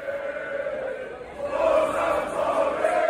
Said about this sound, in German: Die St. Pauli-Rufe waren schon vor dem Abpfiff rund um das Millerntor-Stadion zu hören.